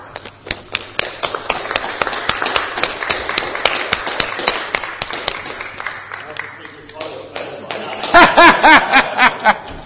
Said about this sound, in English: And here he is, he's just finished 10,000 metres and he's come to join us, bless him. Give him a clap when he comes in.